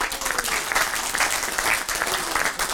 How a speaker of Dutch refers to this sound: En ik geef het woord en een hartelijk applaus voor Erik de Zwart.